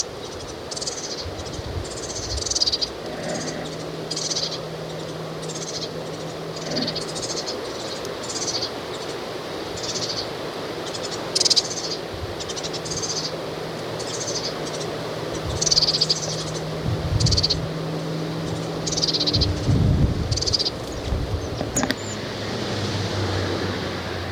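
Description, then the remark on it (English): Several young birds overhead give a steady series of high, thin begging calls, repeated in quick bursts throughout, with wind blowing, over a low continuous hum and faint insect-like background noise. “And it's just begging calls now.”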